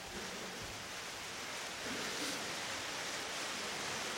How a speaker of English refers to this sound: Sounds like a downpour. That's pretty cool.